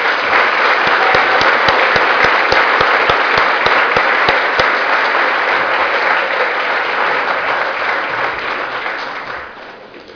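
Sustained applause from a large audience at a society's awards ceremony, given for the newly named fellows. A dense wash of many hands clapping, with a few sharper individual claps early on, holds steady before tapering off toward the end.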